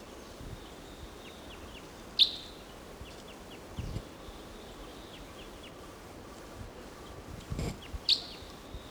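A wild crossbill gives two sharp, bright call notes several seconds apart, with a few fainter chips in between over a quiet outdoor background with soft low rumble, recorded at about 9:30 to 10 o'clock.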